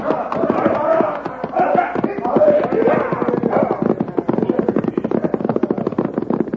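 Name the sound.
horses galloping away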